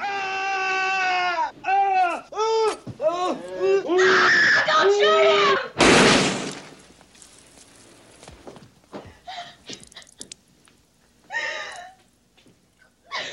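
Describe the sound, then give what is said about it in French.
Frantic screaming and wailing in a film scene fill the first few seconds, then a single loud gunshot cuts through, followed by quieter scuffling and a few faint cries. “Alors les cris et le bruit des tirs est presque aussi insoutenable à la radio qu'à l'image.”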